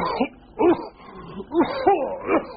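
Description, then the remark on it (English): A person with a cold gives a string of about five voiced, throaty coughs in uneven bursts, moderately loud, with short pauses between them and no talking. “And a cough.”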